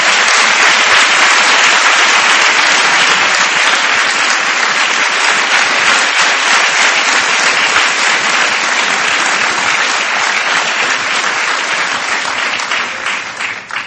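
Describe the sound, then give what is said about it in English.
Sustained, loud applause from an audience honoring a doctor and teacher, a dense wash of many hands clapping steadily for about fourteen seconds before tapering slightly at the end, with no voices over it. “So please join me in a big round of applause to Dr. Green.”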